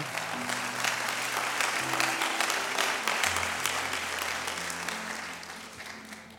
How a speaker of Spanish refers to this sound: Ahora sí, un aplauso al Señor.